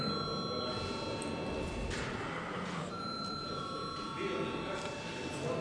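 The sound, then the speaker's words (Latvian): A voting bell in the Saeima, the Latvian parliament, rings steadily for several seconds before a vote. It is a sustained high, even tone with no breaks, over a low murmur of background noise. “Paldies, lūdzu zvanu.”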